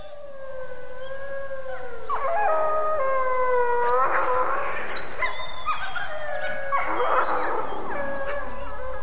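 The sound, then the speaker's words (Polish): Several hungry wolf pups whine and howl together in overlapping, wavering high-pitched cries, with sharper yips breaking in, sustained throughout with no talking. “Te szczenięta piszczą, są głodne.”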